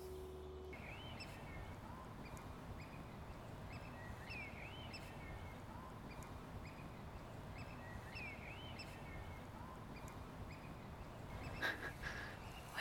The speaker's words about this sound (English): Coot. That squeak.